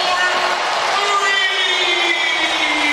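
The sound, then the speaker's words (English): A big arena crowd cheers loudly and steadily for a few seconds after Jason Tatum of the Celtics hits an open three-pointer, a dense sustained roar with scattered whoops and shouting voices rising out of it. “Tatum moving to his left, he steps right into an open three, and the crowd will tell you he got another one.”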